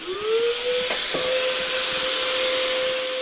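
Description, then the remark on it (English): A motorized disinfectant mist sprayer, used by a hazmat tech to fill a police patrol car with mist, hisses steadily while its motor whines up in pitch and then holds a constant drone, with a couple of brief clicks early on and no voices. “A hazmat tech fills the patrol car with a disinfectant mist.”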